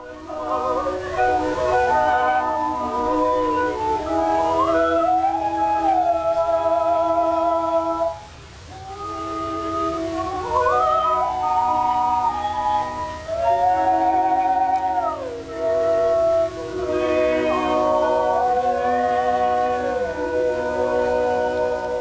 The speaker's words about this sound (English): Well, let's hear another clip here. This is another yodeling song, and something about the Rhine River here.